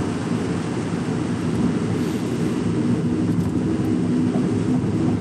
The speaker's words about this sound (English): I hear something. That's my engine in the Kia.